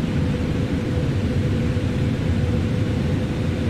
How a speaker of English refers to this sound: Did you hear that thunder? Yeah, that was close and very loud and very strong.